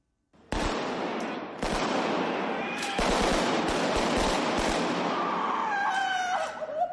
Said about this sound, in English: In eerily realistic scenes, three gunmen shoot their way into a London metro station. Outside, bodies lie in the street.